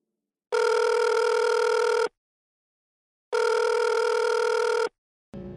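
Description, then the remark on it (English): A telephone rings for an incoming call: two long, steady, buzzy rings separated by a pause of about a second, loud and alone, before a voice starts speaking at the very end. “You have a call today”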